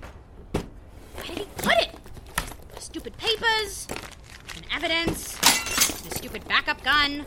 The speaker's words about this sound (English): Mr. Steele's gonna see that I broke his dumb statue and he's gonna kill me.